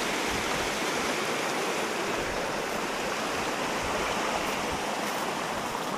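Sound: flowing stream water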